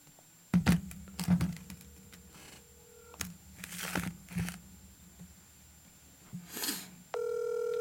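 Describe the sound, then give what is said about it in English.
Crinkly handling noises and soft clicks, then a steady electronic phone ringing tone starts near the end and holds loud and even. No one speaks. “It's ringing.”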